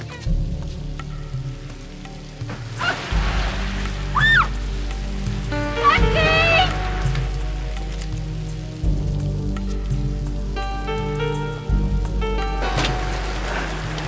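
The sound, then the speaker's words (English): Steady rain hisses and patters continuously over a deep low rumble, with a few brief squeaky tonal sounds rising above the downpour; no clear talking. “The nice man in the back seat say you should get in out of the rain.”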